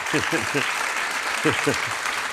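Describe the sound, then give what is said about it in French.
Steady, dense applause from an audience welcoming guest Ronnie Broman, former president of Médecins Sans Frontières, fills the whole stretch, a loud hissing wash of clapping with short bursts of voices calling out over it. “on a demandé à un certain nombre d'invités, d'amis, de nous rejoindre, à commencer par Ronnie Broman, que vous voyez là, que vous pouvez applaudir si vous voulez.”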